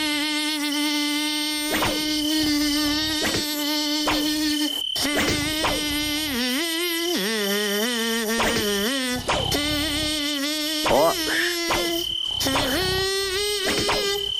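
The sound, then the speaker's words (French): A thin, nasal buzz of a few mosquitoes plays a song melody alone, its pitch stepping up and down through held notes and short gliding phrases, steady for the whole stretch. “on a 2-3 moustiques apprivoisés à Nostalgie. Vous retrouvez leur chanson et c'est gagné”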